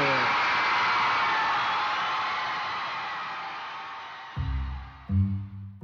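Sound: audience applause and cheering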